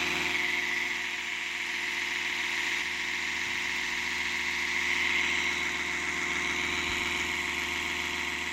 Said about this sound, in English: What is that? Do you want to know what it is? Yeah. It's my electric toothbrush.